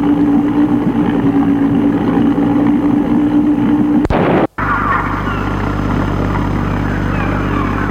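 A small motorboat's engine drones steadily and loudly as it crosses the sea, a constant low hum with water churning beneath, broken by a brief sharp dropout about halfway through before the motor noise resumes.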